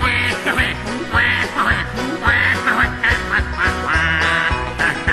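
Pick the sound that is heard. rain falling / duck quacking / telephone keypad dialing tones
duck quacking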